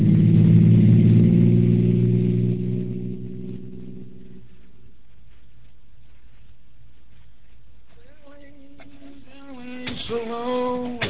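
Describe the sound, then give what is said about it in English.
A car engine hums steadily and loudly, then winds down and cuts out after a few seconds as the car is stopped, leaving near-silence before a few brief tonal sounds at the end. “In a minute, I'll stop the car and let you know what is yours.”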